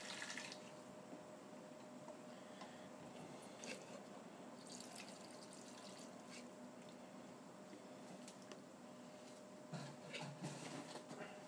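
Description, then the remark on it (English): Water is poured steadily into a cooking pot after red wine, giving a continuous splashing and gurgling wash with small drips and bubbles, lasting throughout without any talking. “And I think we might put a bit of water in as well.”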